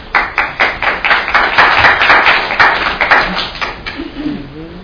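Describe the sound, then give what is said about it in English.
A group of people at a Charlottesville City Council meeting claps in a brisk, steady burst of applause that swells, then thins out and fades, with a voice starting to speak at the very end. “Make them not clap.”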